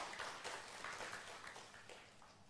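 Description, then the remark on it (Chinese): An audience applauds steadily in agreement, giving the applause to mothers, a dense crackle of many hands clapping that holds at an even, moderate level throughout, with no voices standing out. “同意的拍手，把掌声献给我们的母亲们。”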